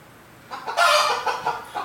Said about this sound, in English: Chicken, I'm gonna put you back up.